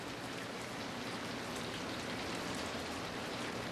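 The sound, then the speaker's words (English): A recording of the sounds of the Brazilian rainforest: steady, dense rainfall hisses evenly across the whole clip, a continuous wash of patter with no pauses, no voices and no distinct drips standing out. “This is all the sounds of the Brazilian rainforest.”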